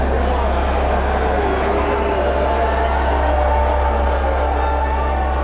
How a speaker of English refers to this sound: event organizers asked people in the crowd to put on a mask, and get this, people in the crowd started booing.